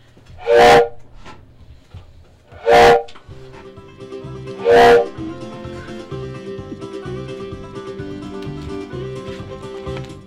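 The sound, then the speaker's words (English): A train whistle sounds three loud, evenly spaced blasts over the rumble of a train, then the steady rhythmic chugging and clatter of the locomotive carries on without voices. “Is that the train I hear? Could it be drawing near?”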